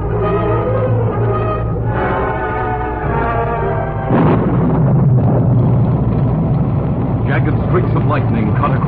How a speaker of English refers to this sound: Thunder crashed, and a torrential wind-driven rain blotted out the trail.